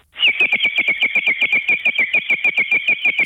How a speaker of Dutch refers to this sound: Ja, dat doet echt... Dat was kinderspeelgoed. Ja. Dus als de pottenbakker langs de boerderijen ging om potten en pannen te verkopen... en dan had hij ook vaak die waterfluitjes bij hem... om dat cadeau te geven